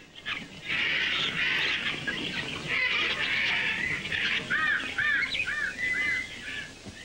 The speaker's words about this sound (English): They're putting the finishing touches on the trap when they notice that something has spooked the birds in the jungle nearby.